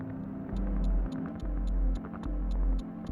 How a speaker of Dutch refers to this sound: Oké, we hoorden ja, toch bepaalde echo's en de gekraak.